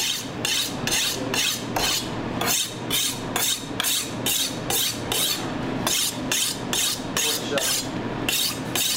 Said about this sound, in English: He then moves to sharpen his knife for slicing the vegetables.